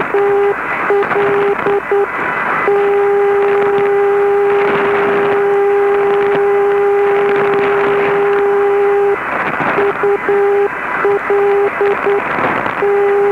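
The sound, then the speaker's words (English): A longwave navigational beacon used for direction finding: a steady radio tone keyed on and off in Morse-like dots and dashes, its identifier repeating over a bed of crackling static and hiss, with a long unbroken carrier stretch in the middle. “Longwave is also home to navigational beacons, again depending on the characteristic of reliable ground wave reception with little, if any, skywave interference.”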